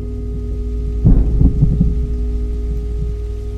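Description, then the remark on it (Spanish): Rain starting to come down, a steady low wash of noise with a brief rolling rumble of thunder early on, then settling back into an even patter with no voices. “Saqué la bolsa de basura justo antes de que empezara a llover.”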